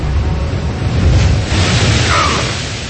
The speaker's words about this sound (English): Okanos crashed back into the sea, and a titanic wave flung the longboat aside. Brodor grabbed the gunwale until the boat finally settled.